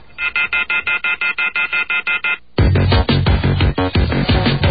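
A telephone rings in rapid electronic warbling pulses, about a dozen evenly spaced bursts, loud and clear, before a full band abruptly kicks in and takes over.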